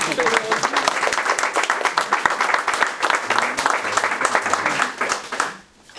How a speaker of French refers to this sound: Ah mais applaudissez-le.